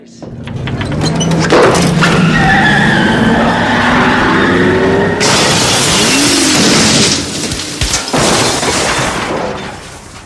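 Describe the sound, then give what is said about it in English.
A loud car crash as a car goes out of a garage: engine roar and tire screech build up, then a heavy impact bursts into a wash of shattering glass and crunching metal, followed by more debris and scraping. “You killed the car.”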